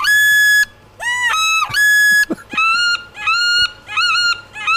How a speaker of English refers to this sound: You could wander around every so often, slip your mask down and just give a belt on your duck whistle.